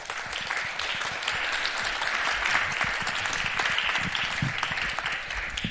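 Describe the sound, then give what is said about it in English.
Steady audience applause welcoming a speaker to the stage for a talk on neurodiversity and digital art, a dense wash of many hands clapping at an even, fairly loud level throughout, with no voices breaking through. “And so please welcome him with a big round of applause.”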